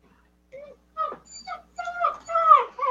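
A dog whimpers and whines in a string of short, high-pitched, wavering bursts that grow louder and more insistent, with no talking.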